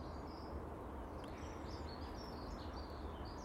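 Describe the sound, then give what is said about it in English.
Faint birdsong: a scattering of high chirps and short warbling phrases drifting over a steady outdoor rumble and hiss, with no one speaking. “It's such beautiful bird song.”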